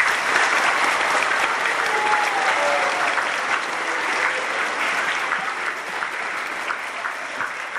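A crowd claps steadily, a dense wash of many hands that stays loud throughout and tapers only slightly toward the end, with no voices standing out. The applause is for the student actors at the end of a school Stations of the Cross performance.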